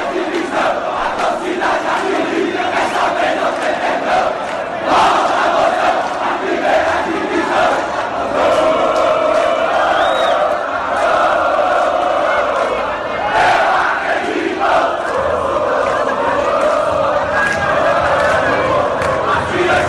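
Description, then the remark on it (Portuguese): Thousands of Ceará football fans welcoming the team's arrival at Pinto Martins International Airport in Fortaleza after a win chant and cheer continuously, a loud, dense wall of many voices singing together in a rhythmic surge that swells and dips without pause. “E o Ceará, depois de vencer fora de casa, foi recepcionado por milhares de torcedores que fizeram o desembarque da equipe no aeroporto internacional Pinto Martins, em Fortaleza, após vitória sobre o Oeste.”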